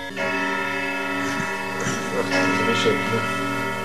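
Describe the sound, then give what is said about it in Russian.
A floor clock chimes, its struck tones layering into a steady, shimmering ring of overtones, with a few fresh strikes landing every half second or so as the sound sustains throughout. “Я обожаю вот часы с боем. Обожаю эти напольные часы.”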